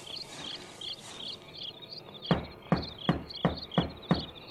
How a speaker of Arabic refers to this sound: لأتوكل على الله وأطرق الباب.